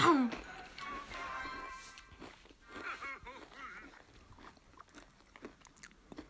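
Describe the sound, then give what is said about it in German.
Loud chewing with wet smacking mouth noises, a steady run of short clicks and crunches; faint voices murmur in the background. “Keiner will deinen Schmatzen hören.”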